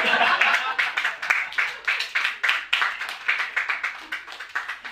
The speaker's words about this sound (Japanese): いや嬉しかったですね。手拍子だけじゃなくてアンコールまで言っていただいて、そればっかり20分ぐらい聴いてたかったですね。